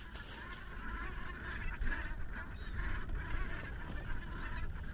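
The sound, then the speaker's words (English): A large flock of thousands of Brent geese, which overwinter here before flying back to the Arctic, honking and murmuring continuously: a dense, overlapping chorus of many birds, with steady low rumbling background noise and no voices. “And one of the most impressive sights at this time of year are the Brent geese, in their thousands.”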